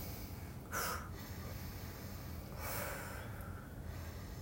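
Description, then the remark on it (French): Two forceful breaths taken to activate the breathing at the end of a relaxation practice: a sharp, brief inhale followed a couple of seconds later by a longer, breathy exhale, both soft against a quiet hiss, with no talking. “Vous pouvez inspirer de façon tonique, souffler de façon tonique.”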